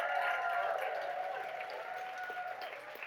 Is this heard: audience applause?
yes